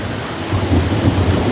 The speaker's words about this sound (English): But now, there's the storm.